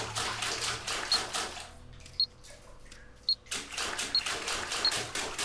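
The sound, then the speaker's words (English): Water drips from a drainage pipe in a sewer, with sharp, bright plinks falling roughly once a second over a steady background rush of flowing water that briefly quiets midway. “And I'll listen for this dripping.”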